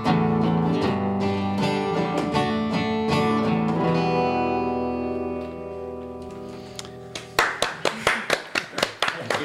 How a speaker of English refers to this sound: Round of applause. Yes, well deserved.